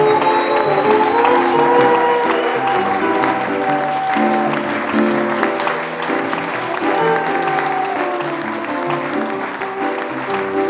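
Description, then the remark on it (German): A live audience claps steadily and loudly for about ten seconds, the applause dense and sustained with some tonal sound mixed underneath, never fading out. “Na gut, ein Publikum vielleicht noch, und Sie waren ein ganz tolles Publikum.”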